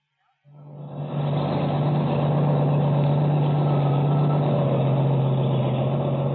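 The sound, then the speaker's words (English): A truck engine on a highway kicks in abruptly and settles into a loud, steady rumble with a deep droning hum, running continuously without any voices. “When the truck arrives, we'll be there.”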